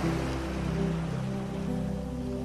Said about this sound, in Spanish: el sonido de las olas como si fuesen una suave música que te arropa.